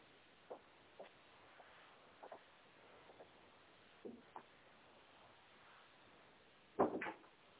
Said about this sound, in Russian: Подождите минуту, я двери закрою. Минуту.